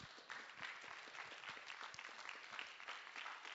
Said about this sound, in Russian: Наши благодарность, наши аплодисменты, они внушают в нее веру, что она тоже может то, о чем она говорила, делать.